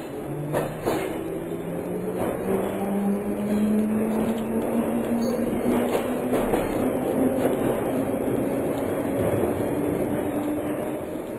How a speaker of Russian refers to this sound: Еще мгновение, и поезд тронулся.